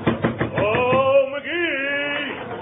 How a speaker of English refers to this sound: That rat at Gildersleeve, what's the idea of beating our door in at this hour of the night?